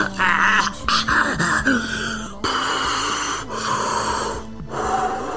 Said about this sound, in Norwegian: Og fyller lungene med ren luft. En del av mitt morgenritual. Det får energien I balanse, ikke sant?